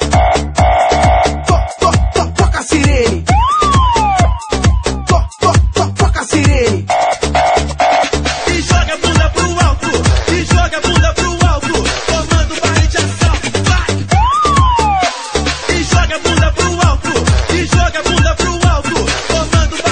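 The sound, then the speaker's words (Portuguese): A siren sound effect wails in rising and falling sweeps over loud, driving dance music with heavy bass beats, swelling near the start and again later. “Toca a sirene!”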